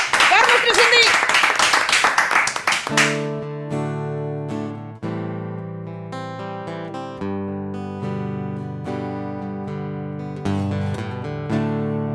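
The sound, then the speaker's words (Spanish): A loud, dense burst of audience applause fills the first three seconds, then stops abruptly as live music with steady sustained tones takes over. “Un fortísimo aplauso”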